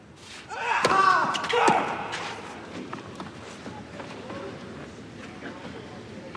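Two loud metallic bangs strike close together near the start, ringing briefly, followed by faint scattered knocks and a low background murmur.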